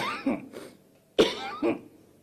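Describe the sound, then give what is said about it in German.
Two rough, heavy coughing fits from Tanzania's finance minister at a press conference, each a burst of harsh coughs with a short pause between them, fairly loud with no talking. “Der Politiker konnte mehrfach wegen starken Hustens nicht weitersprechen.”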